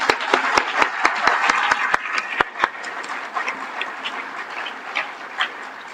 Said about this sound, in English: So, let's have a round of applause for Bell Labs.